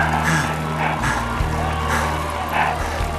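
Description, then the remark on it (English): A crowd cheering in several rising bursts of shouting voices over a steady, loud low engine drone that hums underneath the whole time. “I think they're cheering us.”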